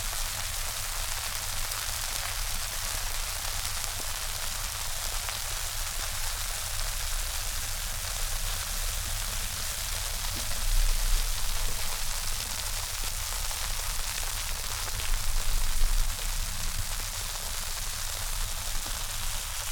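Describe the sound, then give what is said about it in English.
Steady, constant rain made with soapsuds hisses evenly for the whole stretch, a dense wash of fine patter with a couple of slightly heavier surges, and no voices. “Constant steady rain.”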